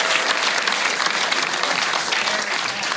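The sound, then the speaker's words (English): A crowd applauds steadily, a dense wash of many hands clapping at an even, fairly loud level for the whole stretch, with no clear individual claps standing out. “So there's I think a round there. Of applause”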